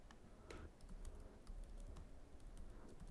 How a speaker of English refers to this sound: I heard you typing around.